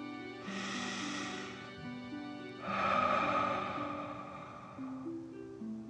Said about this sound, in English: Breathing in through your nose and breathing fire out of your mouth. Again, deep breath in and out.